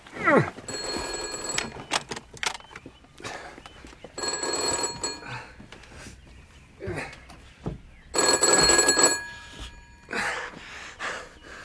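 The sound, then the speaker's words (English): An old-fashioned telephone bell rings loudly in three rattling bursts, each about a second long, separated by pauses filled with faint shuffling and movement. “Who on earth can be ringing at this hour?”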